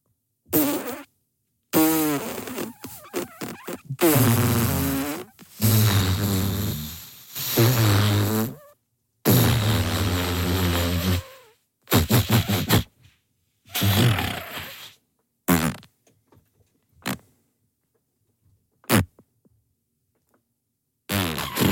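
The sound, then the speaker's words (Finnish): A voice imitates a very long fart with the lips, a rasping, buzzing blow that sputters on in repeated bursts with short pauses, trailing off into fainter pops near the end. “Joo, ja sitten tulee tosi isoja pieruja.”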